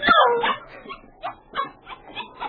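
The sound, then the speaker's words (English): The little dog Bucky lets out a sharp, loud yelp followed by a series of shorter whimpering cries at irregular intervals, at the door of the Klondike Hotel, with no one talking. “The little dog, Bucky, had tagged along behind his young master.”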